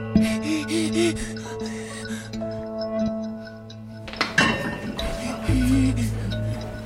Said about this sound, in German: Gleichzeitig hantiert sie mit 2 Töpfen und einer Pfanne.